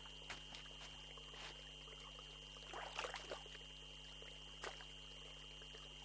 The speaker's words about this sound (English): What a pretty spring. The sound of this spring makes me calm.